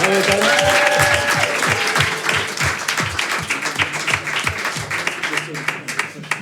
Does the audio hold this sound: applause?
yes